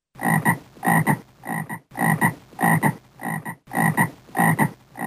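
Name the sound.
frog croaking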